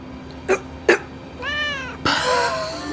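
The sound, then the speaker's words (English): A cat gives two quick chirping sounds, then a drawn-out meow followed straight away by a louder, harsher meow, all clear with no talking. “Wave goodbye to the kitties.”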